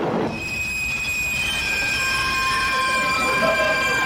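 A train rolls into a station with a steady low rumble while its wheels and brakes let out long, high, layered squeals that hold and shift throughout, loud.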